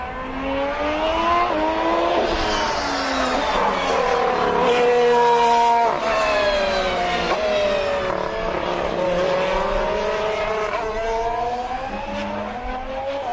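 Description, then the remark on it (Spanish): A McLaren Honda Formula 1 car engine revs hard and continuously during pre-season, its pitch sweeping up and down through gear changes with rasping, crackling harmonics, loud for over thirteen seconds with no voices. “Y vamos a empezar por el que desgraciadamente ha sido el peor coche de lo que llevamos de pretemporada, que es el McLaren Honda.”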